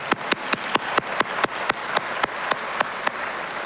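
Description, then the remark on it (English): Graduates of the class of 2023 applaud at their graduation, steadily, the dense wash of clapping punctuated by one sharp, evenly paced clapper, roughly four claps per second throughout. “To my classmates, give yourselves a round of applause.”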